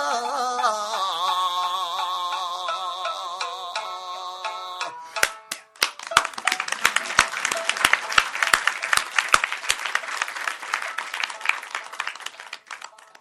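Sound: clapping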